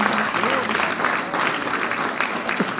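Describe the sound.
Steady applause from a crowd fills the whole stretch, a dense patter of many hands clapping at even loudness, with faint voices mixed in underneath.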